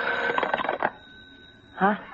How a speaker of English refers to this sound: Well, Mommy, is it so early in the morning? Is the phone ringing?